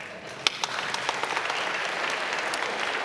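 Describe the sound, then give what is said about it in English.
A crowd breaks into steady applause, many hands clapping together in a dense, bright patter with a few sharper claps standing out, sustained and fairly loud throughout. “Yes, you can clap.”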